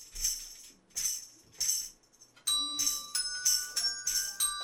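bells being rung

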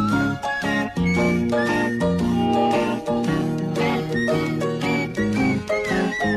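whistled melody

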